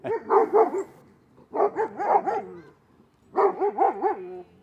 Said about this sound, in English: Bark, bark, bark.